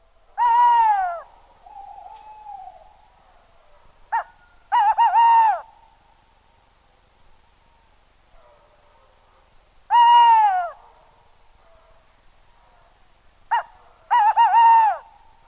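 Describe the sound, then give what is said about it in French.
A tawny owl, about 38 cm, hoots twice, clear: a long hoo, a pause, a brief note, then a quavering drawn-out hoot, repeated after a few seconds of quiet with no talking. “Représentant le plus commun de la famille des hiboux, la chouette hulotte est un chasseur nocturne.”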